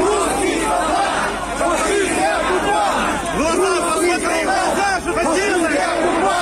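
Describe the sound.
Several thousand protesters shouting together at a peaceful rally against the occupation in Kherson, Ukraine, many overlapping voices forming a loud, continuous roar with raised calls rising out of the din throughout.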